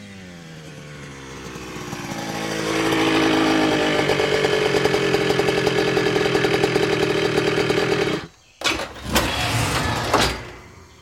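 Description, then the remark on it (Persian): A loud motorcycle engine revs up and holds a rapid, buzzing roar, briefly cuts out, then returns in short throttle bursts. “به زودی اون صدای موتورسیکلتی شنید.”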